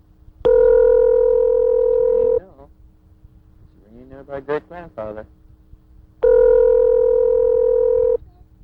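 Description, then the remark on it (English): Two long, steady telephone ring tones heard over the line, each about two seconds, separated by a pause in which a muffled voice briefly speaks. “It's ringing and ringing, and he's not answering.”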